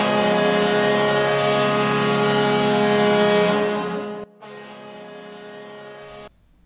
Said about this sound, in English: Did you guys hear, like, is there like a truck horn in the background there? Yeah, like right before.